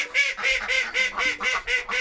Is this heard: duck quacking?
yes